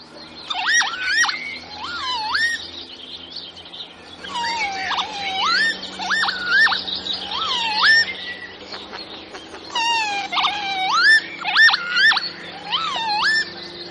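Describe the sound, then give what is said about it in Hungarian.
Northern lapwing calls: drawn-out, swooping electronic-sounding whistles and beeps repeating in bursts, clear, with several birds overlapping and no one talking. “Kicsit ilyen, hát én úgy szoktam mondani, hogy ilyen videójáték jellegű, ilyen elnyújtott sípolás, pittyegés, érdemes meghallgatni a hangját, és akkor utána az ember ezt már soha nem fogja tudni eltéveszteni.”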